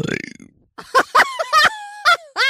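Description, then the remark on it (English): A loud burp rumbles out for about half a second, followed by a quick series of short, breathy vocal bursts. “Burp.”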